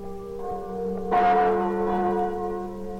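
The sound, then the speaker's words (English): The large bells of Notre Dame cathedral in Paris toll on their own across the River Seine at Christmas time. A sustained ringing hum swells with a fresh strike about a second in and lingers, resonant, with no voices. “These are the chimes of Notre Dame, Our Lady of Paris, tolling out across the River Seine, ringing in one of the merriest Christmases that France has ever known.”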